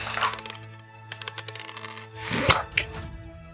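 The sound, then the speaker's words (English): Several new dice clatter and tumble across a hard tabletop in quick, irregular clicks, ending with a brighter rattling burst as they settle, rolled for an athletics check with advantage. “Give me an athletics check with advantage. New dice, please.”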